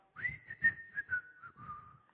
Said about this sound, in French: Il rentrait du travail en sifflant.